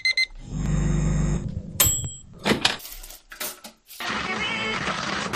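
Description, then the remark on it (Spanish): An alarm clock rings loudly for about a second with a steady electronic buzz, then cuts off, followed by a sharp click and a run of clattering household noises. “El despertador, la tostadora y la radio son algunos de los aparatos que se suelen utilizar en el día a día.”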